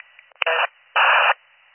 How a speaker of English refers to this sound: Your radio is static.